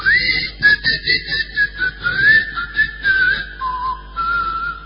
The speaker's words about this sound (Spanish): El único aspecto diferencial de este sitio es que sus habitantes no hablaban, sino que solamente silbaban. A poco de llegar a Tracoda, se escuchaban los silbidos de los habitantes.